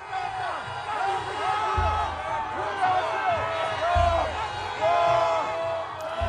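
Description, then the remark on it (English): A huge crowd of Mr. Yoon's supporters waving flags cheers and shouts as he leaves a detention centre in Seoul after his release, many voices overlapping into a dense, steady roar with occasional louder swells and low thumps throughout. “Mr. Yoon was met by huge crowds of his supporters, waving flags as he left the prison and greeted them.”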